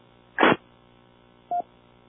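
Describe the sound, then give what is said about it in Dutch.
A short rush of radio static during the Hunebedronde radio round, then after about a second of quiet hiss a single brief mid-pitched beep marking the end of a transmission. No one speaks. “Met een piepje even afgewacht en een gaatje ertussen.”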